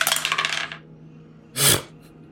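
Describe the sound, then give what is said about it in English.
Dice clatter across a hard tabletop in a quick rattling burst of clicks, followed after a short pause by one louder, brighter clack. It's fairly crisp, with no voices. “I want to, but will my dice let me?”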